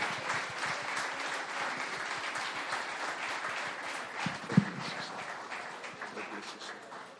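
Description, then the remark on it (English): A crowd applauds steadily, a dense wash of many hands clapping at once, sustained and fairly loud throughout, with one sharper clap standing out briefly near the end. “So let's give a big clap to Stanley.”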